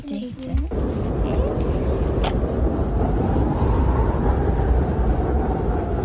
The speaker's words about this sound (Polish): Wichura i burza. Tak, bardzo dobra odpowiedź, to była wichura i burza.